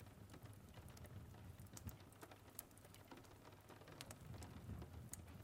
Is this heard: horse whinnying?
no